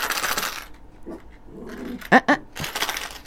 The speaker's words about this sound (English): Yes, my little dog. That's the beauty of live radio. It's these things happen.